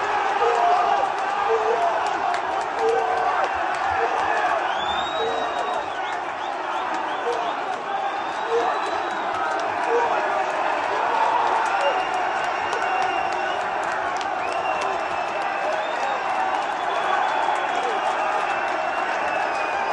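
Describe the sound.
A big indoor crowd at a Cheltenham fan zone in the Camden roars and cheers steadily for the whole stretch, loud, with excited shouts and voices blending into a continuous wall of noise, as they watch a horse jump the last and go on to win a second Gold Cup.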